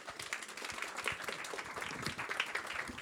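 An audience applauds steadily for about three seconds as an artist is welcomed onto the stage of the Amants Terribles Show in Paris: a dense wash of many hands clapping at once with a few sharper individual claps standing out, fairly even in loudness throughout.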